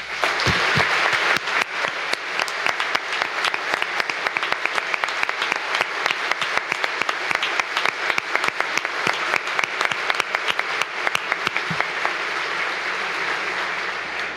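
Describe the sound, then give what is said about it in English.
A crowd applauds Canada for financing a project, with the Canadian Consul General, Joe Comartin, present; a dense, sustained wash of many hands clapping at an even loudness for about fourteen seconds, with no voices standing out. “Please join me in applauding our Canadian neighbors for financing this project and remaining a steadfast partner.”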